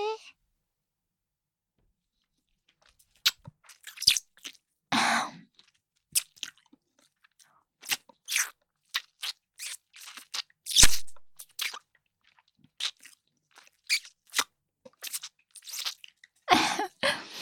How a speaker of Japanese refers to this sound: そんなにお耳しゃぶられるの好きなの？